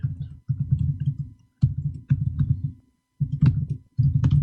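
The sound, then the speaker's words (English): Computer keyboard typing in several quick bursts of muffled, thocky keystrokes, broken by brief pauses, with a few sharper clicks standing out. No one speaks. “I love this keyboard.”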